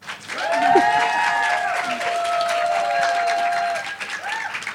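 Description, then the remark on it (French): An audience applauds steadily for several seconds, a dense wash of clapping with rising and falling cheers or whoops riding over it, holding at a fairly loud, even level. “Alors, commencez pas à applaudir, si ça se trouve, ça va pas du tout coller, je vais dire que des bêtises.”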